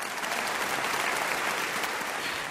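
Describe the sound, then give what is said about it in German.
Sustained applause from an audience after a conducted performance, given once the conductor lowers the baton, fills the moment: a dense, even wash of many hands clapping at steady volume without pause. “und erst wenn sie ihn sinken lässt, dann ist Zeit für Applaus.”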